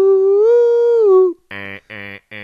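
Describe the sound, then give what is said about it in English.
A voice mimics a car alarm: a long, steady high wail that bends slightly, then three short, loud, buzzy bursts repeated in an even rhythm. “Oh, that's a car alarm.”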